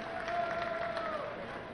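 A crowd at a St. Lucie Mets baseball game at Clover Park applauds and cheers in the seventh inning after a strike is thrown, a steady, even wash of clapping, with a thin sustained whistle-like tone drifting through the noise.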